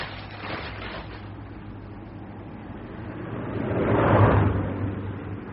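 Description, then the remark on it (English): A patrol car drives past on a road at the edge of a forest, its engine noise swelling to a peak around four seconds and then fading, over a steady low hum with no talking. “A patrol car! Down!”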